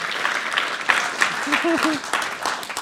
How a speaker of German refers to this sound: herzlich willkommen auf der Bühne. Applaus für euch zusammen.